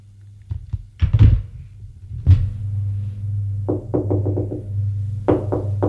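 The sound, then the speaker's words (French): Knocking on an office door: a few scattered thuds and one heavy thump, then a quick run of about five sharp raps and a shorter burst of three, all over a steady low hum. “On a frappé à la porte.”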